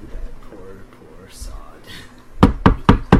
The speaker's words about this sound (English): He knocks on the roof. And the carriage comes to a halt.